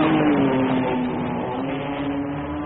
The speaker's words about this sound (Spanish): Después acelero mi auto deportivo y los dejo con un palmo de nariz.